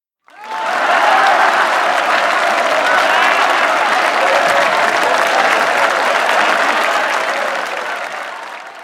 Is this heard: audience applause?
yes